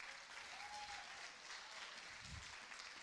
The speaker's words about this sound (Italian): Ma non sto parlando di voi, quelli online. Poi va bene, fatevi un applauso voi che ci siete.